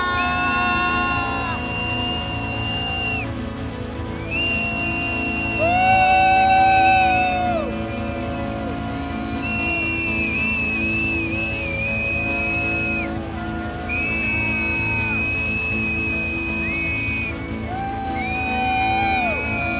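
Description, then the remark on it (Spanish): A large crowd shouts together in jubilation, long joyful bursts, voices rising and swelling in repeated waves of cheering and whooping that fill the space loudly for about twenty seconds. “Simplemente que grite en júbilo, no contra nadie.”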